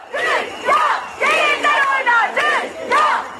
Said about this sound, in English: Protesters in Turkey today shouting, the world will turn upside down if women don't have freedom.